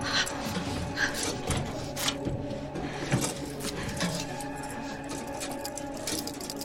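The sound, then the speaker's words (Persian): Small keys jangle and metal clicks as handcuffs are worked open with the handcuff key, a few sharp rattles standing out over a steady low background hum, with no one speaking. “اگه سمت راست زیر نیمکت تو نگاه کنی، کلید دستبندتو پیدا میکنی.”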